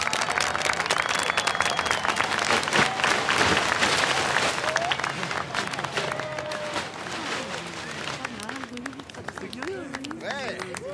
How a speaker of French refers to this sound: Bref, je vous demande d'applaudir Chloé Bloomington.